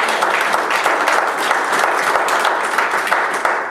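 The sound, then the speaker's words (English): An audience breaks into sustained applause for the Lord during a sermon, dense overlapping claps at a steady, loud level for several seconds with no voices standing out. “Give the Lord a wonderful hand of applause.”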